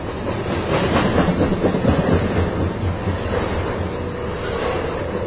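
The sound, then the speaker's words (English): A long freight train of coal cars pulled by two locomotives rumbles steadily past, a continuous loud roll with rhythmic clickety-clack of wheels over the rails and no voices. “There's only two locomotives. It's a lot of cars, though.”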